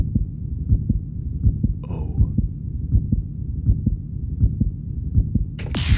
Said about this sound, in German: Vielleicht, dass das Herz so ganz schnell schlägt und man aufgeregt ist. Genau, Herzklopfen, da geht es um Liebe, Nervosität.